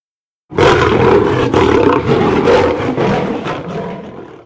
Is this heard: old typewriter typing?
no